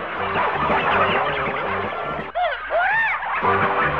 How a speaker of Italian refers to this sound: Polli, galline e tacchini scappavano schiamazzando.